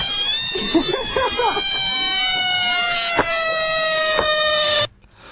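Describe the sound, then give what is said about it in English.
A frog lets out a long, loud, whining call, wavering and sliding in pitch like a squeaky balloon or a cat's wail, lasting about five seconds before cutting off abruptly. “It's a frog.”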